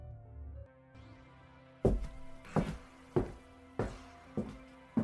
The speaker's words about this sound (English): Do you hear that? Yeah, I do. What is it? Footsteps?